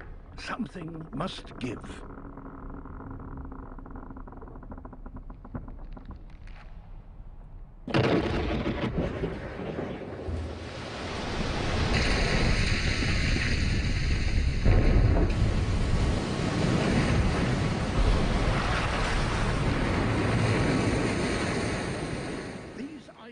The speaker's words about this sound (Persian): و ریزش این یخها علامتی شوم از حادثه‌ای هستند که در شرف روی دادن است، یعنی یک گسیختگی عمیق در یخرود.